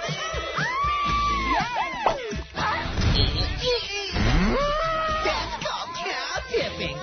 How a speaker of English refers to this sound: That's called cow tipping.